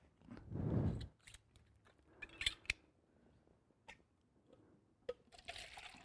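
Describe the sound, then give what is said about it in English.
A short gush of water is poured out of a completely filled bottle with a low glugging burst, followed by scattered clicks, taps and faint trickles before a brief hiss at the end. “When we pour a little bit out.”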